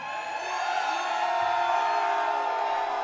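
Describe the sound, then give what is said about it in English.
A large audience screams and cheers loudly and continuously after being asked to scream really loud if they love King Johnson, a dense wall of high-pitched shrieks and whoops sustained for a few seconds without letup. “If you love King Johnson, scream really loud.”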